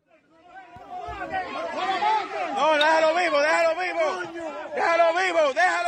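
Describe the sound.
In a video, a dense crowd beating a man shouts and chatters at once, building within the first second into a loud, agitated hubbub of overlapping voices that stays steady to the end.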